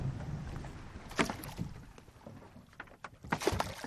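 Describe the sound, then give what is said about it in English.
A small 20-foot-long research boat moves across open water off Maui, with a steady rushing wash of water and wind and several sharp splashes and hull knocks. No voices. “It's twice the size of the 20-foot-long research boat.”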